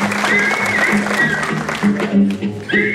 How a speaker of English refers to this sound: So the crowd goes wild.